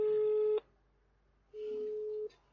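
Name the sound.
phone call ringing tone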